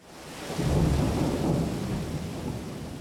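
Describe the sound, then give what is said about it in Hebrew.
Steady rain pours down on the mountains while a deep, rolling rumble of thunder swells early and then lingers, filling the whole stretch with heavy, continuous storm noise and no voices. “גשם יורד על ההרים.”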